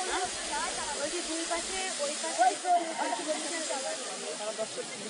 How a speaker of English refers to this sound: It sprays water upwards along three sides of the temple, that is, along the front, also on the left and right sides. The pump is submerged and is totally silent. The only sound that can be heard is the water spraying.